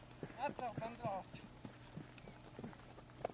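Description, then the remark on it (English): A horse's hooves clip-clop in a steady, brisk rhythm as it comes directly toward the listeners at a good clip, with voices murmuring briefly at the start before the hoofbeats carry on alone. “Oh, yeah, horse is coming directly at us here. At a good clip.”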